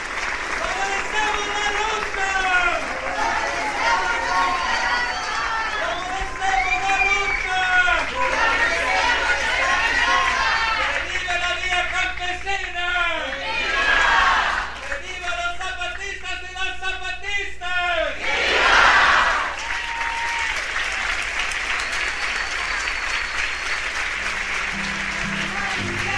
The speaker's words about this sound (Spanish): Un aplauso fuerte para los hermanos y hermanas de Vía Campesina.